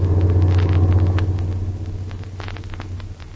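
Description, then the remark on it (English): A truck engine rumbles with a heavy, steady low drone, easing off slightly partway through, with faint rattling clicks above it and no voices. Two men are in the truck, which is following someone. “Especially with those two fellas in that truck following me.”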